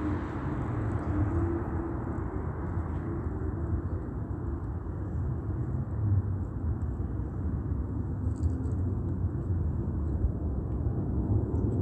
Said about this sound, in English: That's not taking off from Ontario Airport, okay? This is stalking by the state in planes. It's audible activity while demons are surrounding, stalking at the bus stop, around me, and in the parking lot under the fake sun.